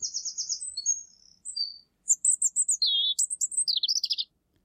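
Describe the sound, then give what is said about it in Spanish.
A European robin sings a varied, high-pitched song of trills, warbling phrases and rapid tweets, clear, with brief pauses between phrases and no voices present. “Qué bonito este canto del petirrojo”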